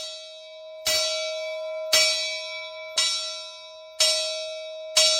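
A bell at a guest ranch clangs five times at a steady pace, about once per second, announcing breakfast at 8 o'clock, each loud ringing strike overlapping the lingering hum of the one before. No voices are heard.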